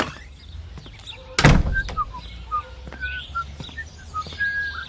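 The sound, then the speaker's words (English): A bird chirps in short, scattered calls, repeating irregularly over a low background rumble, with one loud door-like thunk early on. “Look at that bird.”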